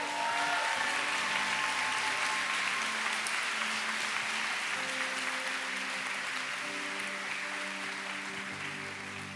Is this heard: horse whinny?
no